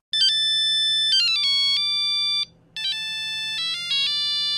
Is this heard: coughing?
no